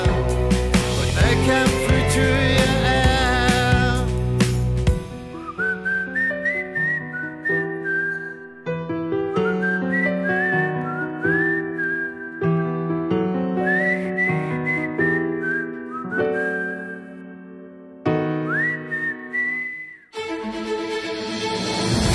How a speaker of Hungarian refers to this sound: Mikor a szélbe fúj majd egy dallamot, talán felkér egy táncra, s én táncolok. És én elcsábítom, hogy enyém legyen, hogy nekem fütyülje el.